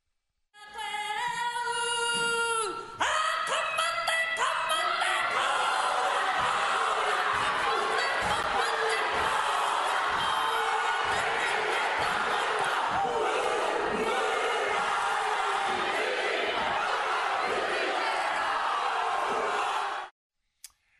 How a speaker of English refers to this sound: So a minor Māori party in that parliament closed that parliament with a haka, a Māori war dance, with Labour MPs joining in this attack on democracy.